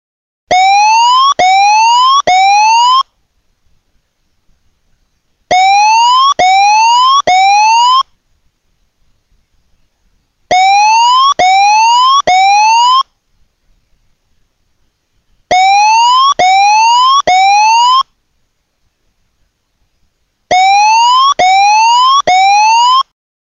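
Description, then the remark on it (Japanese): A major tsunami warning siren sounds in five loud bursts, each three quick rising wails, separated by short pauses of near silence. No voices are heard. “大津波警報、大津波警報、直ちに、高台に、避難してください。”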